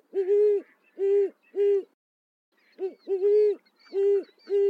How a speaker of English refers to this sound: lately I've been entranced to hear a more unlikely sound, the call of the great horned owl. This large bird's quiet nocturnal habits make it go unnoticed.